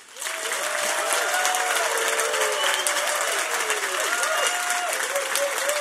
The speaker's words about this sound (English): So I want to ask you to give them explosive applause to bring them on.